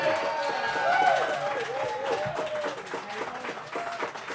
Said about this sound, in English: How about one final big round of applause for the Joyce Boys?